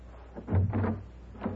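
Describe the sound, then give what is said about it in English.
A door is pulled open with a low, hollow thud and brief rattle, followed a moment later by a smaller knock as it settles. “Open the door.”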